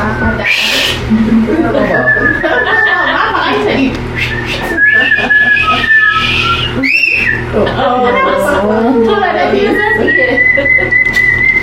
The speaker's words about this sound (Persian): مشکم بزن، سوت بزن. سوت زدن آنن ذهن خاموش میکنه.